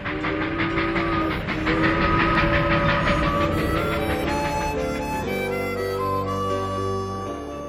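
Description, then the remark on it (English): A train, boarded in late fall for a return trip to the South, rolls steadily along the rails with a rhythmic clickety-clack, while sustained whistle-like tones ring over the clatter; no one speaks. “In late fall, we boarded a train for our return to the South.”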